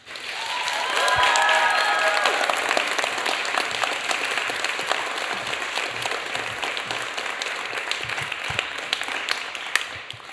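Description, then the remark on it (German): A crowd applauds steadily for about ten seconds, welcoming the next performer onto the stage, dense overlapping claps swelling quickly at the start, with a few cheers or whistles rising above early on, then holding fairly even. “Wir holen unsere nächste Starterin ans Mikrofon, klatscht sie mit einem tosenden Applaus auf die Bühne.”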